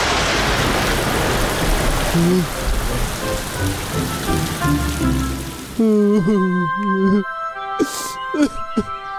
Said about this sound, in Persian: باران بارید و اونا کاملا تر شدن.